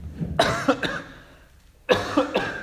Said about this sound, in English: Trying to stop that cough before the microphone hit.